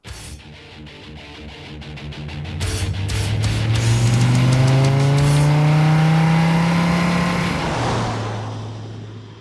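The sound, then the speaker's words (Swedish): A car engine roars as it accelerates hard while being driven at 180 km per hour, its pitch climbing steadily and loudly before easing off, with no voices present. “Jag sitter i en bil. Hålet i bröstet värker. Jag är arg, förbannad. Tårarna rinner. Jag slår med handen mot ratten. Jag kör i 180 km i timmen.”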